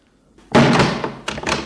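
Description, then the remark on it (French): An apartment door slams shut with a sharp, loud bang after near silence, followed by a second rattling impact and a brief echo as the frame settles. “Un long silence, puis la porte de l'appartement qui claque.”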